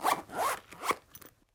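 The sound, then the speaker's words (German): A clothing zipper is pulled in a few quick, rasping strokes, two longer zips followed by shorter ones that trail off. Fairly clear, with no voices. “Reißverschluss.”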